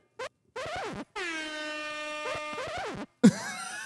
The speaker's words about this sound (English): Wait, the record scratch into the air horn.